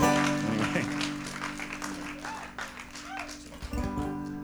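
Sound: audience applause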